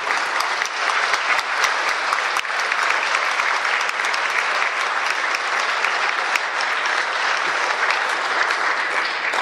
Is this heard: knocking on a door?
no